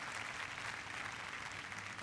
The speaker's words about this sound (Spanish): Fue la sinfonía sobre dos temas rusos de Mijaíl Glinka. El público aplaude la interpretación de la Orquesta Filarmónica de la BBC, conducida en esta ocasión por Vasily Sinaisky.